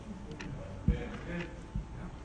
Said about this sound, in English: And there's a lot of times it's a good background noise, because that's the truth. Time is just ticking away.